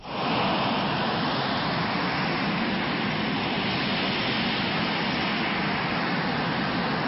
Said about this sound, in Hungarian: Ez egy Z131-es szállító jármű, hát ez sem fiatal már. Hát olyan 60-as években gyártott eszközről van szó, azért ezt tudni kell.